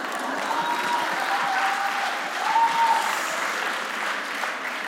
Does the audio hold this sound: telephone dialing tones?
no